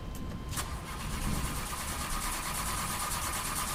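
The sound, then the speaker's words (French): A car engine cranks over and over with a steady, rhythmic churning that never catches and roars to life. It's fairly loud, with no voices. “Putain, je veux pas démarrer!”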